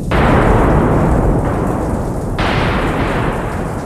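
Deep, heavy thunder rumbles continuously and loudly, with a broad roaring wash of low noise that swells again midway, likely with rain hissing underneath. No voices.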